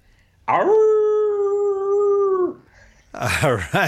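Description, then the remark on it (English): People imitate a hound dog's howl to close out the Old Dogs REI Network show, with one long, loud, sustained wavering note lasting about two seconds, then a brief pause before laughter and voices rush in. “We're called the Old Dogs REI Network, so we like you to close out our show with your best old hound dog howl.”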